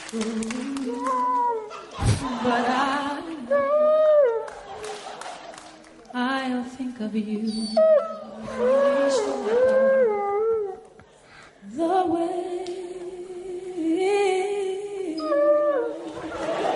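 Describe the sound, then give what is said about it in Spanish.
A dog howls in long, wavering rising and falling notes along with a loud vocal song as the singer belts a high note, the two pitches sliding around each other for several seconds. “cuando pega el berrido …, que para descanse, se viene arriba el perro”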